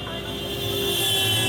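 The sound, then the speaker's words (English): A cab's engine runs with a steady, rumbling drone and a thin high whine on top as the cab heads off, holding fairly even and swelling slightly over a second and a half, with no talking. “Mr. Sharma, the cab driver, heads off.”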